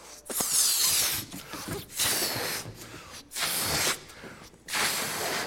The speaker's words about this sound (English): Did everyone see that? All right. It didn't take too long, did it? All of a sudden, the air was out of that balloon big time.